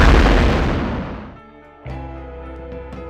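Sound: explosion boom sound effect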